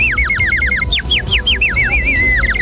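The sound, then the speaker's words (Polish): Ceramic water bird whistles shaped as birds, roosters and canaries warble loudly and continuously, several bubbling trills overlapping in quick chirping bursts, over a low, busy outdoor rumble at St. Dominic's Fair, an open-air street market in Gdańsk, Poland. “Ptaszki na wodę, ceramiczne. Pardoszkie, koguciki, kanarki.”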